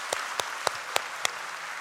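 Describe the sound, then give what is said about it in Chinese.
An audience claps together in tight unison, five sharp, evenly spaced claps at a brisk steady beat over a faint room hiss, with no talking. “要给点掌声，神给点掌声自己。”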